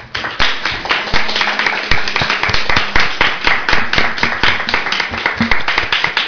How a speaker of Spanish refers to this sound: Por lo tanto, pido un aplauso para ella.